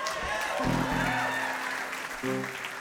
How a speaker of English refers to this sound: I think you're clapping because you like to see if we're going to be just sucking at it or not.